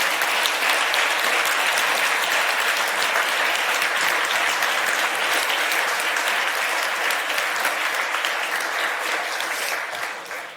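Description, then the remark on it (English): Sustained applause from a crowd for the event organizers and the AV team, a dense, steady wash of clapping that holds loud for about ten seconds before tapering slightly at the end. “Please turn around and clap for them as well.”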